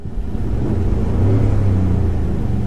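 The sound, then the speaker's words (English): A Ford F-150 pickup truck engine revs with its real, unenhanced sound, a steady low rumble, its pitch rising slightly midway, loud with no voices. “This is the real actual sound of a Ford F-150.”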